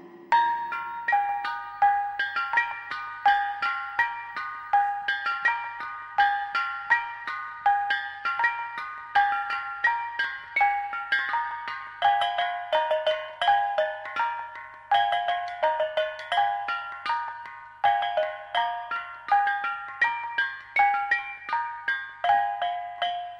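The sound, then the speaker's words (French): A Javanese bonang gong chime, a set of inverted copper pots resting on two stretched cords, played in a steady, lively pattern of bright, ringing metallic strikes, melodic notes overlapping as they decay, continuing for over twenty seconds with no voices. “Voici un caillon de gong appelé bonang. Ce sont des sortes de pots en cuivre renversés sur deux cordes tendues.”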